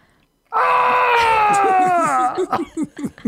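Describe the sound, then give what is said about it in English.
A person lets out a long, loud, exaggerated crying wail that holds a steady pitch before sliding down, then breaks into choppy sobbing bursts, delivered as a vocal imitation of crying. “This is what it sounds like when I cry.”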